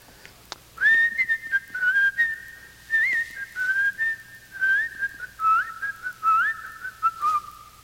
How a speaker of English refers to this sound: You whistle while you work.